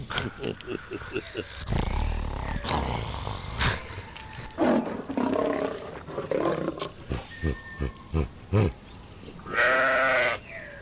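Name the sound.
lion roaring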